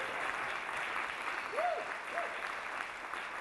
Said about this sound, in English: So let's have a round of applause for Jeremy Rooster.